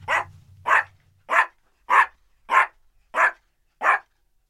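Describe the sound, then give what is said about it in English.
A puppy named Eno barks seven times in a steady, evenly spaced rhythm, each bark loud and sharp, with a low rumble underneath at the very start. “I've never heard him bark that way.”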